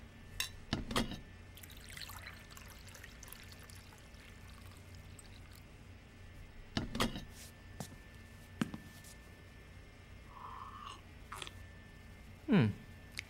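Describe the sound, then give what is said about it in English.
Water is poured into a glass, with a few soft knocks and clinks amid quiet and a short gurgling pour near the end. “Do you need a glass of water?”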